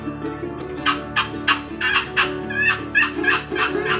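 A wild turkey calls in a quick, rhythmic run of about eight sharp yelping bursts over a few seconds, fairly loud, with a steady low hum underneath and no talking.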